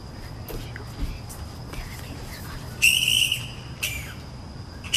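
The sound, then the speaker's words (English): Shrill, squeaky screeches from bats visiting a flowering gum tree by a back deck at night come in two short bursts, the first longer and louder, over a steady high insect-like whine and a low background rumble. “why do bats make weird screeching noises? I hope you like listening to their sounds.”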